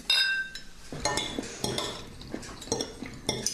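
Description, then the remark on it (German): People eating and tasting a glutamate-seasoned sauce, with wet lip-smacking mixed among bright clinks and scrapes of cutlery on dishes, in a steady irregular run of short sounds with no talking. “Da schmatzen sie.”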